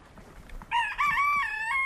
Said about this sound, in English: It's the communicating of I'm wanting to lay an egg, or with all the cackling when I've laid an egg.